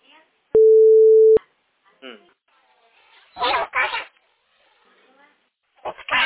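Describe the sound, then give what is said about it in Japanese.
A steady, loud telephone line tone sounds for just under a second near the start, with clicks at each end, followed by quieter voices talking over a phone line, during a call made from a family home to a mobile phone. “実家から携帯に電話した。”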